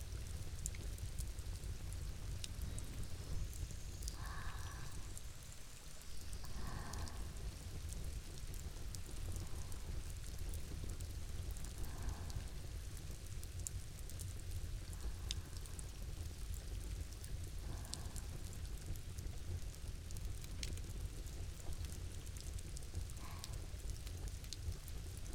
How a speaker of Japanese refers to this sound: 雨の音が今日も心地いいですね。